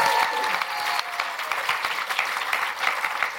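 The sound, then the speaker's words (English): A crowd claps steadily in a dense, crackling round of applause for author Simon Garfield, loud and sustained throughout with no voices standing out. “Simon Garfield, round of applause for Simon, please.”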